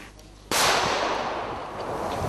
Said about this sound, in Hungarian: Riasztó lövéssel próbálják elzavarni a Szent Anna-tó közelében élelem után kutató állatot. Kevés sikerrel.